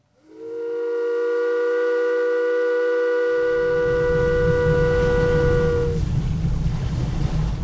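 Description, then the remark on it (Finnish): A loud steamship whistle sounds one long, steady, low-pitched blast lasting about six seconds on a crossing of the Adriatic Sea to Venice, joined midway by a rumbling engine or water noise that continues after the whistle stops. “Maaliskuuta tulimme höyrylaivalla Adriamären yli Venetsiaan.”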